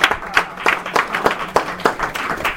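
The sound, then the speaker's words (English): A small group claps for a few seconds: a steady patter of sharp, crisp hand claps at a fairly even pace, with no voices over it. “The only reason I say that is so I can get applause.”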